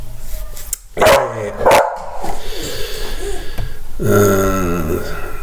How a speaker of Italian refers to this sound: E ora scusate il cagnolino.